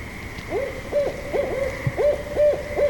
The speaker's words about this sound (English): That's the barred owl, and they are getting ready to make babies. But I love them. Yeah. I really do. How can I protect them? Keep your trees. Don't cut your trees down. Leave your trees up. They like woods.